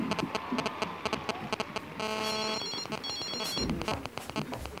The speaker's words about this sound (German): Das Klingeln des Handys musste aus ihrer Handtasche kommen. Aber wo war das verdammte Ding?